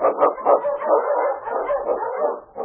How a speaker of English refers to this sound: On, King! On, you Husky! The Wonder Dog King, swiftest and strongest of Eskimo lead dogs, blazes the trail through storm and snow for Sergeant Preston, and he meets the Challenge of the Yukon.